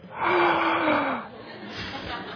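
A sharp, surprised gasp from a man listening to a talk, a loud breathy intake with a thin rising tone, lasting about a second, followed by softer breathing and faint background murmur.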